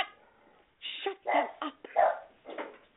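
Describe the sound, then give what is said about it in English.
Dogs barking: a short run of five or so sharp, mid-pitched barks in quick, uneven succession, fairly loud, following a faint muffled stretch at the start. “Oh, the dogs are insane. They bark at everything.”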